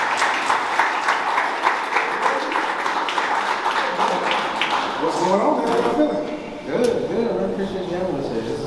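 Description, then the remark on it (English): An audience claps steadily in a dense, sustained round of applause. Voices rise over the clapping toward the end, with a brief dip before cheering and talk continue. “So y'all make a round of applause”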